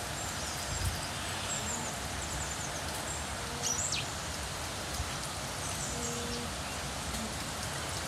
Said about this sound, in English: Oh, chaffinch.